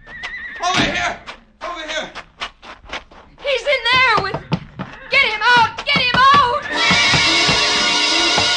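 A horse rears and screams in a stall, shrill, wavering cries and whinnies mixed with sharp thuds and bangs of its hooves clawing against the wooden stall boards, loud, ending in a harsh sustained roar of noise.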